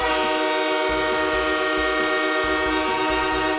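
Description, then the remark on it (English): A loud, sustained train horn blares steadily, its chord ringing rich, while the low rumble and rhythmic clatter of rolling train cars churn beneath it. No one speaks. “No boards, all trains. All aboard!”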